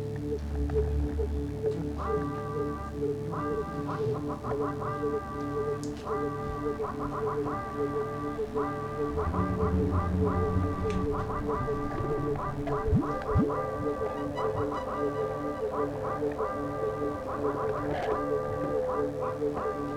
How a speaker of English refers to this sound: is tuning the theremin